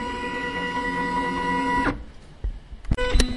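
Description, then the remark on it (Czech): A 3D printer hums with a steady, tonal motor whine for about two seconds, then stops abruptly, leaving a few scattered clicks and clatters. “co všechno tady vlastně na těch 3D tiskárnách vyrábíte?”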